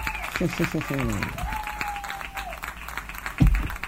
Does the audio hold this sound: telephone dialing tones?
no